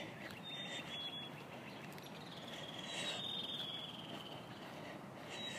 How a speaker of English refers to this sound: Wanted to capture the sounds of all the birds I'm hearing. I think Scott says those are chickadees. What other birds am I hearing?